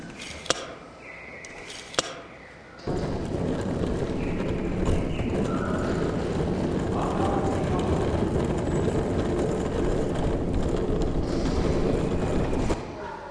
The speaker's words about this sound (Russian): Покатили чемоданы, идем сдавать ключи.